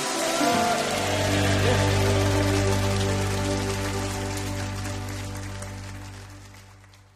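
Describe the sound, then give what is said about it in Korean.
An audience claps steadily in thanks to God after praise and prayer, a dense, crackling wash of applause over a sustained low keyboard chord, gradually fading toward the end. No one speaks. “그렇게 우리의 찬양과 기도를 받으신 하나님께 가장 큰 감사의 박수입니다.”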